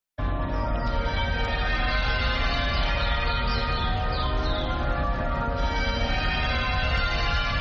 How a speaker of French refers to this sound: les cloches de la cathédrale Saint-Georges sonnent pendant 10 minutes. C'est ici que Desmond Tutu fut archevêque de 1986 à 1996.